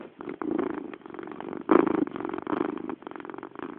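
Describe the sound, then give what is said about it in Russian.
A cat purring, a steady low rumbling that pulses in a rhythmic pattern with a brief louder swell partway through, sounding slightly thin, recorded on a Sony Ericsson K310 mobile phone. “Даже мурлыканье кота вы слышали.”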